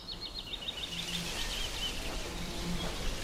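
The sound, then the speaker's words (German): Birds chirp and sing in a forest, with quick repeated high-pitched trills and tweets over a soft, steady background ambience; the calls are continuous, with no one talking. “Vogelgezwitscher dringt an dein Ohr und du hörst es in den Ästen der Bäume rascheln.”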